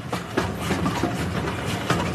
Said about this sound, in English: And it became very, very quiet. I can just only hear the noise from the railway.